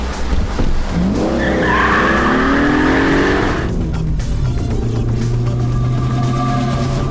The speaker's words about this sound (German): Da, das Müllauto kommt ins Schlingern. Jetzt zur Seite. Oh, Volltreffer, direkt in das Schleusentor.